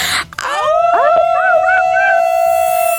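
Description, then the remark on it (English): Several people, a radio caller together with the hosts, howl in imitation of wolves after a count of three, their voices sliding upward into long, sustained, wavering notes that overlap for about three seconds with no talking. “Before you go, can I hear your best howl?”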